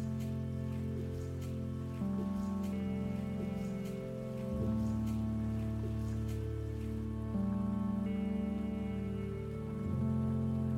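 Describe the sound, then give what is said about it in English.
Steady rain patters down with scattered drop ticks, heard alongside low sustained humming tones that shift pitch every few seconds; no one speaks. “I love that it's raining.”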